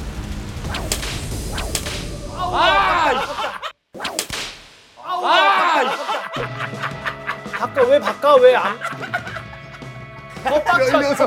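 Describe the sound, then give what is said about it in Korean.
A couple of sharp smacks of a fist, rather than a palm, striking coins on a hard surface, surrounded by loud laughter and excited, overlapping voices. “아유, 동전을 주먹으로 쳐! 손바닥으로 안 하고!”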